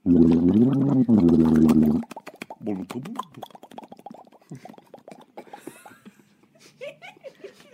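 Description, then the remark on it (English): A child's voice imitates a fish with a loud, wavering gargle, then sputters into a run of quick bubbly pops and plops that trail off softer, ending in faint giggly sounds. “Wow, you have great fish noises”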